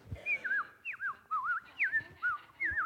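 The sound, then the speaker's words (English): A person whistles an imitation of birdsong: a quick series of about eight sliding, warbling notes in a bright, high register, each swooping up and down, imitating birds singing outside on a bitterly cold day. “But you know what the birds were doing outside?”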